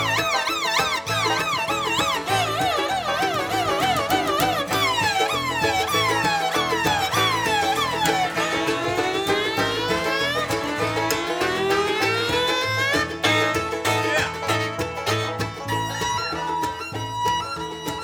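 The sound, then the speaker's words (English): A loud car alarm blares nonstop on Dale's car, broken into while parked in downtown Winston. It cycles through shrill electronic patterns: wavering warbles, repeated rising whoops and rapid high chirps, with no one speaking. “I heard Dale parked his car in downtown Winston one day. Someone broke in. But it had an alarm system.”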